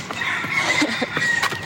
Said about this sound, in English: Other than being distracted by my roosters all around,